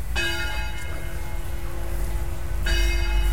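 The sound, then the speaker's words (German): The bells of St. Mary's Church (Marienkirche) in Bad Segeberg, Schleswig-Holstein, Germany, ring out in two clear strikes a couple of seconds apart, each with a long shimmering hum that lingers between them, over a steady low outdoor rumble. “Da erklingen die Glocken der Marienkirche, die wir jetzt auch direkt betreten.”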